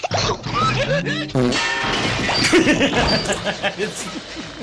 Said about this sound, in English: It's always the fart noise. Like, I can totally hold it together right until it goes, and I just lose it every time.